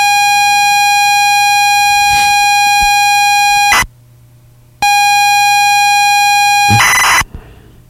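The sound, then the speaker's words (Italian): Computer data cassette loading tones: a loud, steady electronic whine runs in two long stretches split by a brief silence, each ending in a harsh, hissing burst of data screech. “il suono è molto simile a quello di un modem 56k, e infatti più o meno diciamo che la tecnologia è la stessa”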